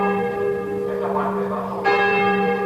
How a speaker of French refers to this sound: Les cloches de la cathédrale Saint-Joseph à Hanoï, avec le mausolée Ho Chi Minh, l'église construite par les Français en 1886, reste l'un des principaux aimants à selfie, ou plutôt à autophoto, comme disent les Canadiens, pour les nombreux touristes